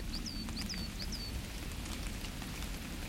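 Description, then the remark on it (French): Water drips irregularly from trees after rain in a conifer forest in France, a steady patter of soft taps over a low rumble, with a few thin, high bird chirps in the first second. “En fait, les arbres sont en train de s'égoutter là.”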